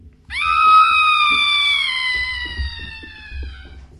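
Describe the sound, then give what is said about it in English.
A cat lets out one long, loud screech that starts abruptly and slowly trails down in pitch over several seconds, with faint low rumbling and clatter underneath. “Here, kitty, kitty.”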